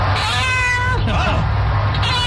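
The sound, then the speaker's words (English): A person imitates a cat, letting out a couple of loud, drawn-out meows, with a steady low hum running underneath. “I'll be inside watching TV and all of a sudden I'll just hear.”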